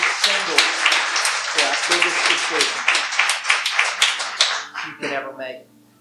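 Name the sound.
audience round of applause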